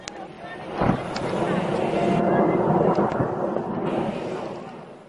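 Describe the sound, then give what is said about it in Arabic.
A loud, sustained roar of a second Russian warplane rumbles overhead as it maneuvers to rescue a downed pilot over the Maarat al-Numan countryside, swelling and fading over several seconds with a sharp crack near the start, while voices can be heard faintly beneath the engine noise. “الان يقوم الحرب الروسية الثانية في المناورة لانقاذ الطيار الذي تم اسقاطه.”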